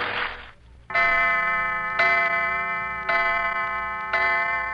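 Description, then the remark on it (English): A clock sounds four evenly spaced, ringing strokes about a second apart, each tone lingering into the next, after a brief hiss at the start. No voices are heard. “Clock. I'll have to hurry.”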